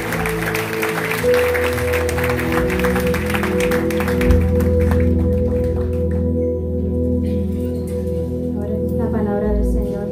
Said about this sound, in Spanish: Así que dar un fuerte aplauso a ese que recibe toda la gloria y toda la honra.